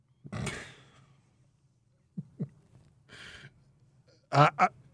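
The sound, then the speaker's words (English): A goose honks several times at irregular intervals, with a couple of softer calls and a rough hissing burst, ending in a loud double honk. “Geese are terrifying.”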